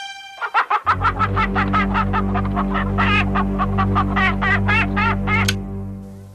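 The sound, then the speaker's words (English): Hens cluck inside a coop in a quick, steady stream of short, bright calls over a constant low hum, with no voices, before falling quiet after a few seconds. “I can hear the ladies inside, safe and sound.”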